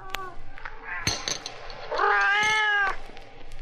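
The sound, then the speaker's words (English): A cat meows, a long drawn-out wail rising and falling over about a second, preceded by a shorter, fainter mew and a sharp thump. “Sammy won't touch frozen milk. No cat will.”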